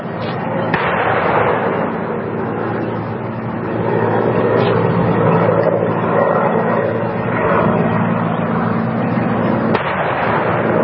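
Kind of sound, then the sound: impact, 21-gun salute cannon fire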